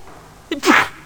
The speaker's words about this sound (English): Bless you. Sorry.